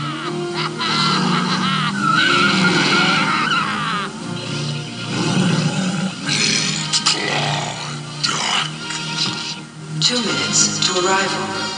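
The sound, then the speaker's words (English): A car skids with loud, drawn-out tire squeals and a roaring engine as it runs over an alien's foot, mixed with a jumble of squawking, croaking vocal cries and brief bursts of voices throughout. “He ran over the alien's foot.”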